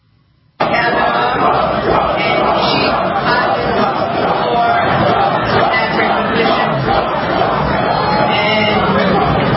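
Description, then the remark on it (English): After a brief quiet moment, a large crowd at a public event erupts into loud, sustained chanting of "Trump" and booing of Letitia James, a dense roar of many voices that holds steady to the end. “Trump chant broke out.”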